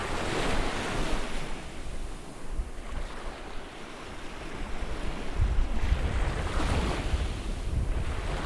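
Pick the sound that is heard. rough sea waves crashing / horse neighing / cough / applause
rough sea waves crashing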